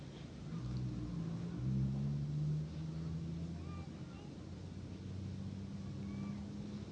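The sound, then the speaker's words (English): A truck engine rumbles with a low, steady drone, swelling slightly early on before holding at an even level, as a heavy vehicle moves by. “Truck.”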